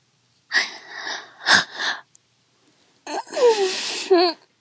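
Two long, breathy yawns separated by a short pause, the second rising into a voiced, wavering sigh that slides down in pitch before trailing off. No talking.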